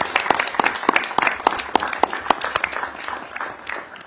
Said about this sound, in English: I also want to make sure that we thank the pages that have been through the thick and thin with us in this committee. If we could give, let's give them a round of applause for everything they've done.